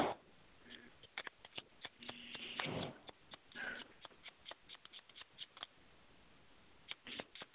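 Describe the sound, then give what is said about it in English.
Crisp card shuffling: rapid papery flutters and sharp riffling snaps, with a few softer sliding swishes and pauses between bursts, heard alone without any talking. “And the beautiful noise in the background is the shuffling of the cars.”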